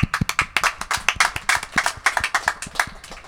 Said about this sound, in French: Ils méritent tous un tonnerre d'applaudissements. Encore une fois.